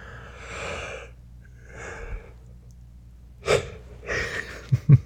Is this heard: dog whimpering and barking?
no